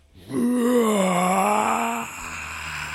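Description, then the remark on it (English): A person vocally imitates the roar of a dangerous creature, not quite as big as a T-Rex: one sustained, rising-then-falling growling moan lasting under two seconds, loud and strained, with a faint low rumble trailing afterward. “you just hear a roar”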